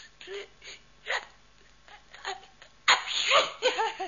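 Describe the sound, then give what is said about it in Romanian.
A few short, catching intakes of breath build up to a sudden loud sneeze, followed by some brief voiced sounds. It is clear, with no talking. “M-a lovit strănutul.”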